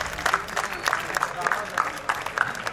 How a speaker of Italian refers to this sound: Allora, facciamocene un applauso.